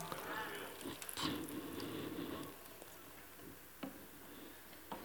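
Water is poured into a container in a steady, splashing stream lasting a couple of seconds, then it stops, leaving quiet background with a few faint clicks.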